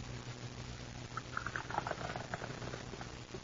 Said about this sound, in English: let me pour your coffee, Maud. It's still very hot.